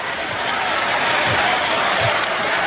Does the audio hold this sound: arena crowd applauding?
yes